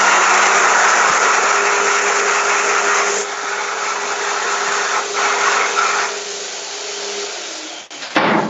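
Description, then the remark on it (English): A loud, steady electric hand dryer, not a Dyson, in the European Union, blows with a broad roaring whoosh and a faint steady hum beneath, easing slightly partway through before cutting off abruptly near the end. “I see they don't have Dyson hand dryers in the European Union.”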